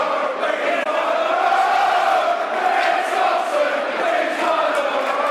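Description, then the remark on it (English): A large football stadium crowd roars and chants together in a loud, sustained wall of voices, swelling with shouts across the whole five seconds with no break, in the 35th minute as player Ben Thompson receives attention on the pitch. “That's what the crowd think.”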